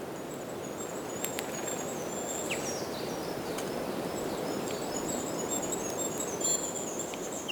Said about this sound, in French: Les gazouillis des oiseaux.